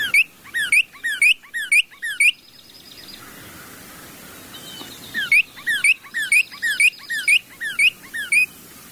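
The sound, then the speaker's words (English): A female northern cardinal sings two bright phrases of rapid, repeated slurred whistles, about eight notes each, separated by a short pause. The song is clear, with no talking. “A female northern cardinal is as adept as a male at singing.”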